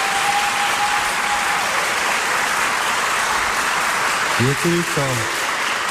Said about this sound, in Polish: Serdecznie pozdrawiamy naszych radiosłuchaczy. Brawa dla nich już teraz.